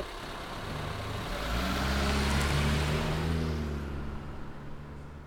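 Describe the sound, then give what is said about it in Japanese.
A car engine revs and pulls away, its harmonic drone rising and swelling before fading as the car drives off and disappears around a corner, with no voices present. “大野さんの車は颯爽と曲がり角に消えていった。”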